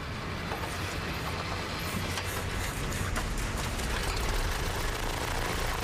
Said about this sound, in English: When it's flooded, what I need to do is push the gas out of the cylinders. I just spin the engine backwards, and that pushes the excess fuel out of the cylinders. And it'll push it back down through the carburetor.